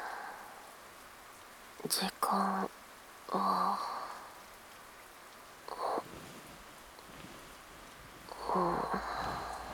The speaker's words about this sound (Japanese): うん、雨降ってる。